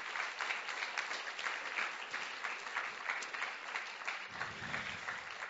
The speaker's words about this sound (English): Some of these people you will know, others you won't. Can we give them a really warm round of applause, really warm welcome?